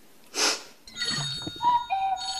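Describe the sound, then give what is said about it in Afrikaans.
A brief breathy whoosh gives way to a phone ringing with a call at 6 in the evening, its electronic ringtone playing a short sequence of bright, sustained tones at moderate volume, with no talking. “Dis mos 'n foon.”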